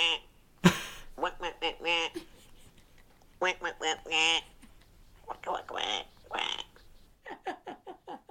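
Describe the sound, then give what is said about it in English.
A woman's voice makes repeated nasal quacking sounds in short bursts, imitating a mother duck to coax a duckling out of a hedge, with brief pauses between groups of calls; fairly loud. “Mum decides the thing to do is to impersonate Mum. So she starts quacking at it.”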